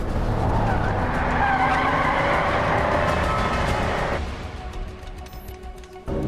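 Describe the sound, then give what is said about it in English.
A car swerves hard during a chase with NYPD units after a suspect who turned south. Its tires screech in a long, loud skid with a rising whine over the engine roar, then the squeal cuts off and the motor rumbles on more quietly. “Cole swerves spectacularly.”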